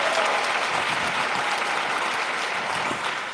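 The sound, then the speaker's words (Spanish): Audience applause for two finalists fills the whole stretch, a steady, dense wash of many hands clapping at a fairly loud, even level without letting up. “voy a pedir un aplauso para los que creo que son los dos finalistas”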